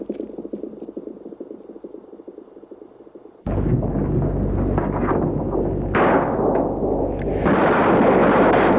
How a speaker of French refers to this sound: Des coups de feu.